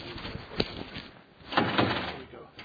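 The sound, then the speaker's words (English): A door is rattled and pulled: a sharp clunk, then a longer burst of rattling and knocking at the handle, with faint murmuring voices in the background. “Is the door locked?”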